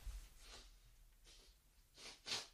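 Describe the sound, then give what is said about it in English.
A few quick sniffs through the nose with soft rustling of a nose being wiped, the last sniff sharpest and loudest, with no talking. “I feel like I need to wipe my nose.”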